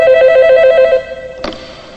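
A telephone rings with a bright, warbling electronic trill for about a second, then cuts off abruptly, followed by a brief click as the handset is picked up. No talking.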